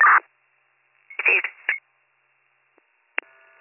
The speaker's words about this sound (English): That phone's going to keep dialing until it dies. There's something wrong with it. They can't turn it off.